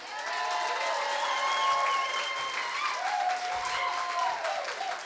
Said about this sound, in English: Could I please hear an enormous round of applause for Mr. Derek Sinn?